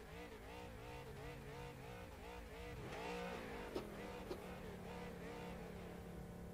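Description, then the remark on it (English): A car engine revs repeatedly in a racing video game as the player tries to do a burnout, its pitch rising and falling in steady surges before settling into a sustained high drone, with a couple of sharp clicks near the end. “I'm revving. Oh, that's you? Sorry, I was trying to do a burnout.”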